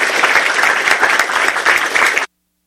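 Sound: audience clapping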